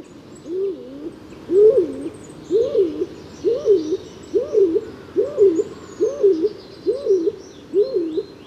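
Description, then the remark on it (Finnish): A stock dove coos in a steady series of about nine low, hollow phrases, evenly spaced, with faint birdsong twittering in the background. “Uuttukyyhky on sepelkyyhkyä huomattavasti pienempi ja töpäkämpi.”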